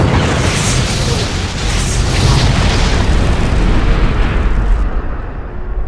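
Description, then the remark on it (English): A thermite grenade explosion: a loud, sustained roaring blast with heavy low rumble and crackling hiss, staying dense for several seconds before the high fizz cuts off near the end. “He was still airborne when the Gren detonated in a blinding flash.”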